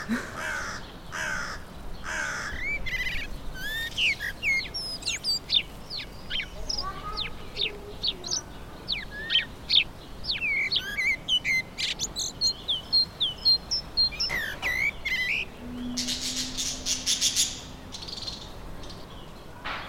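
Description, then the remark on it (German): Many birds chirp and tweet in quick, overlapping bursts while crows caw loudly in a nearly empty park; a low murmur of activity sits underneath. “Und dann im Park, wo es fast keine Leute mehr hatte, habe ich plötzlich die Vögel wahrgenommen.”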